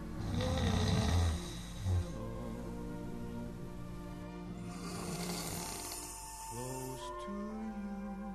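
A man snores loudly in his sleep at 1 a.m., with long rasping, droning breaths that rise and fall in a steady rhythm, each inhale rumbling deep and harsh before easing off.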